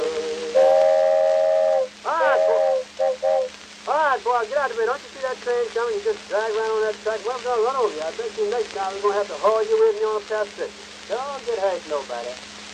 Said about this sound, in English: All right, boy, get out of the way. Don't you see that train coming? You just drag right on that track. Well, I'm going to run over you.